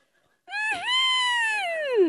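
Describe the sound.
A single loud shriek like a startled owl, with a quick wavering catch near the start, then a sustained piercing wail that sags downward in pitch at the end, heard alone.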